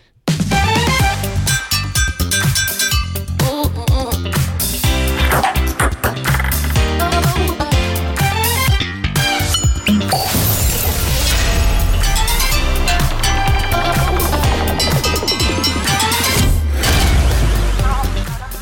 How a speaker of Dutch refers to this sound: En het leuke is dus, allerlei alledaagse voorwerpen zijn dus gebruikt in de tune. Dus er zitten ook pannen, pingpongballetjes, het ontkurken van een fles, een boor of een drill, weet ik veel wat, zit er ook in.